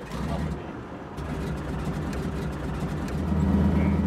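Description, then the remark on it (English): The pilot starts a tiny plane's engine: a steady low rumble and droning hum that swells noticeably louder near the end; no one speaks. “Chris, Heather, and I pile into the tiny plane, and the pilot, Dennis, fires up the engine.”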